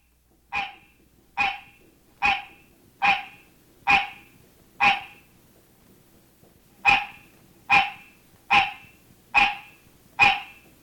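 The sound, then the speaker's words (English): The mating call of a hybrid tree frog, a cross of the green tree frog and the barking tree frog: eleven short, sharp, barking notes repeated at an even pace, six then a brief pause then five more, loud with no other sounds. “This is a mating call of a hybrid resulting from the cross-mating of the green tree frog and the barking tree frog.”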